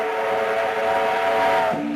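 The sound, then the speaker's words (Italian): A loud, sustained steam train whistle blares as the train arrives, with a rich, steady tone, then slides lower in pitch near the end. No one speaks. “Intanto è arrivato il treno.”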